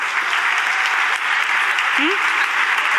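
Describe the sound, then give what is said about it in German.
Steady, dense applause from a crowd at a TU as colleagues from the Bildung, BITS und Bäume conference are called onto the stage, a loud continuous wash of clapping that holds for the whole stretch, with a brief faint vocal whoop rising out of it near the end. “Bitte mal einen Applaus.”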